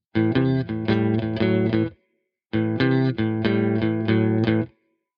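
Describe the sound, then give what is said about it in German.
An electric guitar plays a short bluesy riff as a blues warm-up exercise to stretch the fingers and the little finger, with a slightly overdriven, effected tone, repeated twice with a brief pause between, clear with no talking. “Übung Nummer 2 heißt Offener Blues. Es wird Zeit, deinen kleinen Finger aufzuwecken und allgemein deine Finger ein bisschen mehr zu dehnen.”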